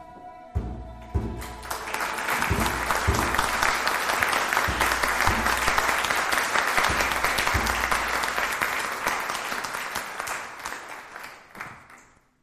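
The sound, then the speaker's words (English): An audience breaks into sustained applause at the end of a play, rising quickly to a steady, dense wash of clapping for about ten seconds before tapering off and fading out. “Applause, please. Applause.”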